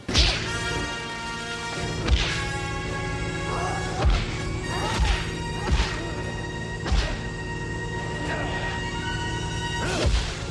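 Exaggerated Indiana Jones-style movie punch effects: about seven loud, sharp whacks land at irregular intervals over a steady, sustained musical drone, with no talking.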